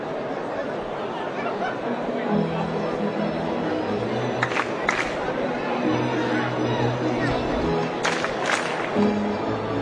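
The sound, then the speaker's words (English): A large Thirsty Thursday crowd at a baseball game fills the air with a steady roar of chatter and cheering, with a few sharper bursts of shouting or clapping rising above the continuous hubbub. “And this Thirsty Thursday crowd starting to get just a touch on the, what's the term I want to use? Excited side?”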